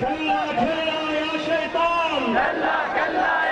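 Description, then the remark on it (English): Thousands of men at a Friday rally outside Sadr's office in Sadr City chant in unison, echoing a prayer leader's chants of no to America and yes to liberation; their loud, sustained voices form steady harmonic bands that rise and fall together, swelling again toward the end. “At a Friday rally on this day outside Sadr's office, thousands of men echo the prayer leader's chants of no to America and yes to liberation.”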